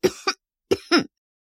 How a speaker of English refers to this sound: Listen, can't you hear? I've got a terrible cough.